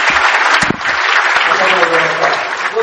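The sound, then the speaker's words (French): Steady, loud applause from an audience welcoming Dauphine Saumaron, ambassador plenipotentiary of the Republic of Benin, a dense wash of clapping that holds at an even level throughout, with a few low thumps mixed in. “Mesdames et messieurs, voici monsieur Dauphine Saumaron, ambassadeur plénipotentiaire de la République de Bénin, avec des applaudissements.”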